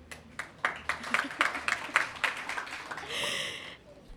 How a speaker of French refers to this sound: Si vous voulez des questions, applaudissez fort, comme ça je sais.